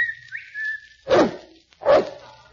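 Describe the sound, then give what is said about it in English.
A person whistles for a dog named Kelowna: a steady, sustained whistle with a brief upward slide, followed by two loud, distinct barks answering. “I'll whistle for Kelowna.”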